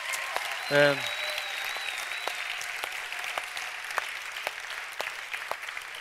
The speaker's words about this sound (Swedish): Och ingen mindre än en av dem som fick Nobels fredspris var Dr. Mukwege. Ja, men det är verkligen värt en applåd.